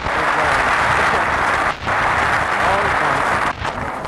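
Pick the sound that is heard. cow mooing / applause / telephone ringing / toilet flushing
applause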